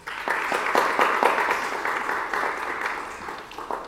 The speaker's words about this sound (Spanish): Por favor, un aplauso.